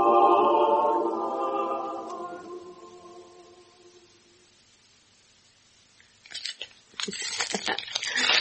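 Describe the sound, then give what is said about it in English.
A sustained, humming tone fades away, then after a short hush comes a burst of crisp, irregular crackling and rustling as wrapping paper is crinkled and pulled open to unwrap a gift. “Lovely paper, darling.”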